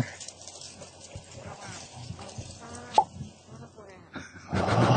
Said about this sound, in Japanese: 最後、ぴょっといったのは俺のパソコンの警告音ですけど。